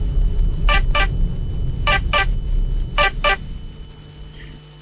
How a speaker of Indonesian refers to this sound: bunyi telepon itu membangunkanku.